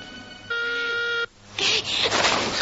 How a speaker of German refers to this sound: Noch eine andere Person schleicht durch die Nacht und löst auf dem Werksgelände Alarm aus.